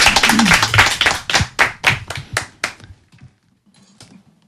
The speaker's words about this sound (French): Et puis on peut les encourager, les personnes qui sont là, on peut les applaudir si vous voulez.